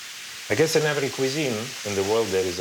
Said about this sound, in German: In der Pfanne braten Hackfleisch und Zwiebeln.